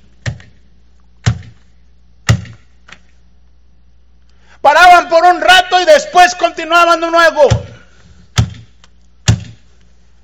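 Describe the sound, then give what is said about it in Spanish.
A hammer drives a nail into wood with three sharp, evenly spaced blows about a second apart. A person then speaks briefly, and two more solid knocks follow. “Escuchando el martillo una vez y otra vez, una vez y otra vez.”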